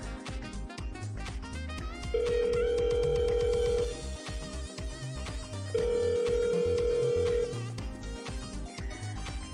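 A phone rings out on an outgoing call to a best friend: two long, steady ringback tones separated by a pause, sounding clearly over busy background music and noise.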